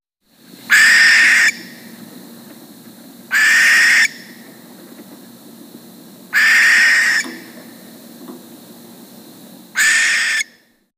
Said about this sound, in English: Common barn owl.